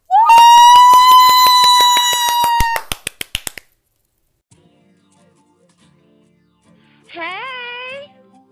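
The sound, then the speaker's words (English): Hosts clap to welcome a guest, rapid, evenly spaced clapping beats over a steady humming tone, then slowing to a few separate claps and stopping. After a quiet pause, a short wavering, sliding tone briefly sounds. “We're going to clap it up for our guest”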